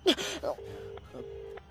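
A quick breathy gasp, then two steady, evenly spaced ringback tones from a phone call to Digambar Sahab, each about half a second long, repeating with no answer and no talk.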